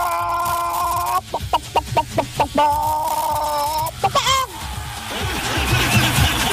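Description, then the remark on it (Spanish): A person imitates a clucking hen, with a steady tonal cackle, a quick series of rhythmic clucks, and a rising squawk, followed by a brief burst of laughter. “No, yo iría a hacer Tyrion ahí a la plaza, pero de gallina”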